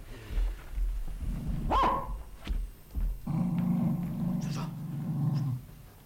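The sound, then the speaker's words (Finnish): A tracking dog, Tuisku, being taken into a building's stairwell to pick up a trail, gives a sharp bark, then a long, low rumbling growl that swells and holds steady for a couple of seconds before fading. No one speaks. “Lienee viisainta, että viemme koiran suoraan porraskäytävään.”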